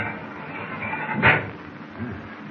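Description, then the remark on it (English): A heavy steel door leading out of a control compartment is hauled open: a short grinding scrape, then a low creaking groan, set against a steady mechanical rumble filling the space. “I'll try this steel door, see where it leads.”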